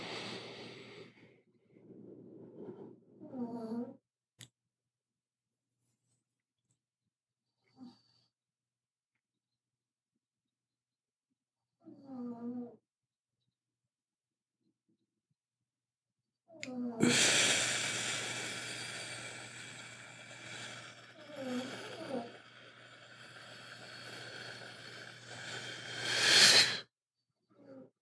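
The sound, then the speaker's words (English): A small dog snores up close, giving short snorty, wheezing breaths in scattered bursts with pauses, then a longer stretch of loud, hissy, rasping breathing with snorts mixed in. “Oh, the snoring was so cute.”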